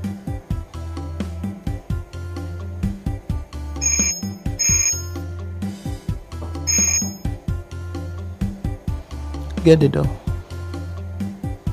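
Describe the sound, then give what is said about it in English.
A doorbell rings in three short, bright chimes, two close together and then one more after a pause, clearly audible over a busy, steady background. “Get the door.”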